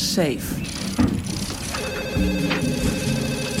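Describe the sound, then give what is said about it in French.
A telephone rings steadily in a busy, cluttered setting, its bright tonal ring sustained through the second half over murmuring voices and low background noise, as the US president spends 2 August on the phone with allies. “En ce 2 août, le président américain passe sa journée au téléphone avec ses alliés pour prendre le pouls.”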